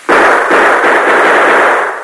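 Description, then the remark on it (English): Loud gunshots are fired into the bottom of a wooden water barrel to make bullet holes: two sharp blasts about half a second apart, followed by a sustained, harsh burst of noise that lingers for over a second before fading slightly. No one speaks. “A few more bullet holes in the bottom of the barrel will let the water run out faster.”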